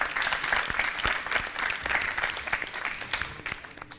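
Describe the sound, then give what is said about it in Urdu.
A crowd applauds steadily, many hands clapping in a dense, sustained burst at moderate loudness, holding for several seconds; the audience welcomes Team A as it is called up in a cooking show's dish-identification round. “Team اے سے درخواست کروں گی یہاں تشریف لائیں، ان کے استقبال کے لیے تالیاں ہونی چاہیے.”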